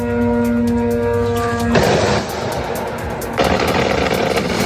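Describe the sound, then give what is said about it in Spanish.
A steady droning tone gives way to loud, harsh bursts of rapid automatic anti-aircraft fire from air defenses trying to shoot down Iranian drones targeting the US embassy in Baghdad, Iraq: one short burst followed by a longer sustained stretch of fast, rattling shots. No one speaks. “Pues lo que escucha son las defensas antiaéreas tratando de derribar los drones iraníes.”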